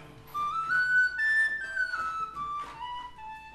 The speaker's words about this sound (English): So this is a wooden penny whistle, QD, sort of like a pickup.